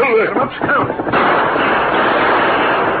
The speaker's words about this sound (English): Them shoot guns. Ho. Five of them. They're shooting at someone in the draw below. That's right. Them not see us yet. All right, draw your guns. We're going shooting.